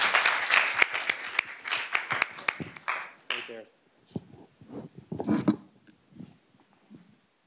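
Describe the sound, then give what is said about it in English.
An audience bursts into a few seconds of lively clapping for a gentleman from Australia, the first volunteer called down to fill the seat. The clapping quickly tapers off, followed by a person starting to talk. “A round of applause for our brave first.”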